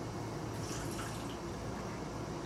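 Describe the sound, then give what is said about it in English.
Someone takes a large gulp of water, a steady wet liquid sound running continuously for a couple of seconds, even in loudness, with no talking. “Take a large drink of this water.”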